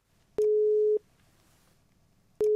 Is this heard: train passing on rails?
no